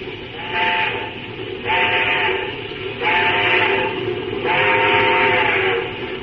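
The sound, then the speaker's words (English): A steam locomotive whistle blows four loud, sustained blasts in steady succession, each about a second long, over a continuous rumbling, hissing background of engine noise. “Sure, I'll give him the whistle.”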